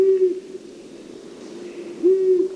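Two low, steady hoots from a long-eared owl, the first at the start and the second about two seconds later, each a flat, drawn-out tone over faint background hiss.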